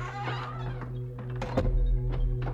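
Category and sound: household object, door being closed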